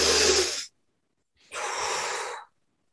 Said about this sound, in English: Now come up to the level of your head and just take a few breaths to clear any old clutterous thoughts you no longer need. Breathing powerfully.